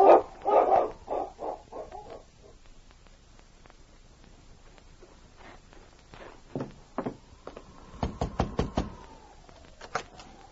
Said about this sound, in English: a month later that Sergeant Preston was leaving the office of Inspector Grayson at Mounted Police Headquarters when he heard a bark. King whined as he saw Rex approaching.